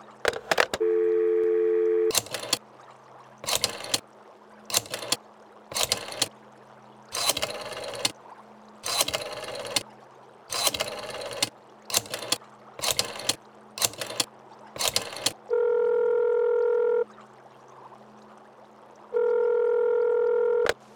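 A steady telephone dial tone is followed by a series of short clicking bursts as a rotary phone's finger wheel is spun, then two long electronic tones ring out on the line. No one speaks.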